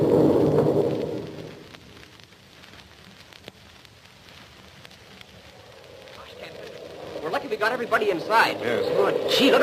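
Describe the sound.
Heavy tropical rain from a bad tropical storm, a cloudburst almost like a hurricane, pours down in a steady, dense roar that fills the whole clip. It is louder at the start and end, with voices speaking faintly beneath the downpour.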